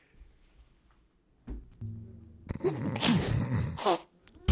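After a quiet stretch, someone blows their nose in a loud, noisy, honking burst lasting about a second and a half, followed by a short sharp snort at the end.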